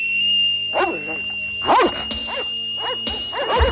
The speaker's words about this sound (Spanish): los Doberman olisquean nerviosos.